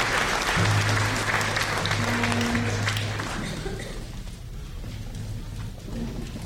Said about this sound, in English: Well, how about a round of applause? A fantastic addition to the show.